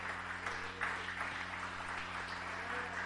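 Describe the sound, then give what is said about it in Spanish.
An audience stands and applauds loudly for the Maestro, a dense and steady wash of clapping that holds at an even level for about three seconds, with a faint low electrical hum running underneath. “Si lo crees, ponte de pie y dale un aplauso fuerte al Maestro.”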